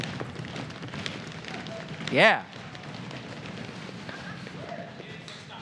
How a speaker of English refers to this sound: I don't think we've ever done the floor stomp in the history of the church. Can we do that?